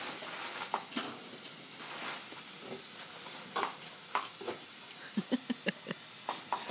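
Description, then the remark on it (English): A steady hiss of spraying water runs throughout on a slightly humid day, broken by short, sharp snaps of a dog's jaws as it stands on its back legs trying to bite the water, scattered at first, then coming quickly in a cluster near the end. “You might be able to hear his jaws snapping.”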